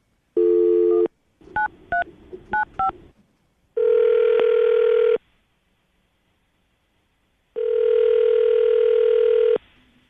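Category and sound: signal or alarm, telephone dialing and ringing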